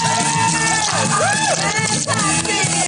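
A squishy, slurping water effect sloshes continuously over about three seconds, with wet, gurgling swoops that bend up and down in pitch over a dense, loud bed of sound.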